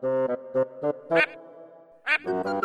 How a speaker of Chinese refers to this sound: 哥哥去上厕所，听到了呱呱声。